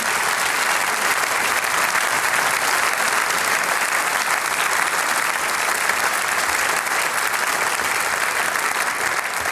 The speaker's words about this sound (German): Einmal einen ganz großen Applaus, bitte schön, für den Veranstalter.